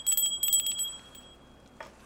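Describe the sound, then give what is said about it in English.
A small, high-pitched bell rings several times in quick succession, then its bright tone fades out. A brief soft knock follows near the end. No one speaks. “I have to remember to use the bell more because some animals really perk up as soon as they hear it.”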